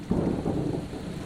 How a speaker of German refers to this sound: Boah, Alter. Ja, okay, ich glaube, jetzt geht's richtig mit Gewitter los. Komm, schnell Unterschlupf suchen.